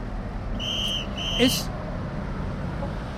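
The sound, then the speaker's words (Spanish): Steady traffic rumble with two short, high-pitched car horn beeps in quick succession near the start, then continued road noise. “Es un ruido que en el fondo está bien, pero fíjate, por ejemplo, hemos escuchado el coche, los claxons del coche pueden estar en 90 decibelios”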